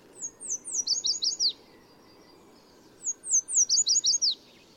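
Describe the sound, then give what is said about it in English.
A yellow warbler sings two bright, high-pitched phrases, each a quick run of sweet whistled notes that speeds up toward the end, heard clearly over a low, steady background rumble. “In spring and summer, yellow warblers sing from treetops in city parks and streamsides from Mexico to Canada.”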